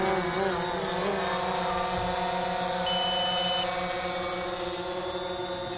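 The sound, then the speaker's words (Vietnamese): A steady, high-pitched drone motor buzz drones on continuously, its pitch wavering slightly, with no voices present; the drone flies about 1 metre above a herd of Hereford cattle on a farm near Kiowa in south-east Victoria, Australia. “Tiếng động cơ của chiếc drone chẳng làm cho đàn gia súc hoảng sợ.”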